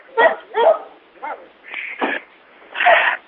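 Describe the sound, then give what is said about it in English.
A dog barks about half a dozen times in quick, uneven bursts, some sharp and yippy, others more drawn out, moderately loud with no one talking, heard over a group call from a participant's unmuted line. “The person with the dog, please mute.”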